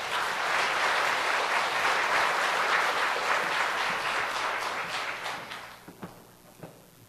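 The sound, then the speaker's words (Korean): A church audience applauds steadily to welcome a visiting pastor, a dense wash of many hands clapping that holds loud for several seconds, then thins out into a few scattered, fading claps at the end. “여러분 박수로서 맞이하시면 감사하겠습니다.”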